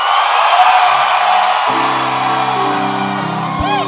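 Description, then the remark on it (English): A large audience at a church service screams and cheers loudly and continuously, a dense wall of voices with whoops and shouts rising over a sustained roar from many people. “Inside, can I hear you scream?”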